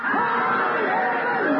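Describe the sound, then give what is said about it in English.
An audience shouts "Hallelujah" together in one loud, sustained burst, many voices blending into a dense roar that holds steady for a moment and then cuts off. “At the count of three, we're going to shout, Hallelujah!”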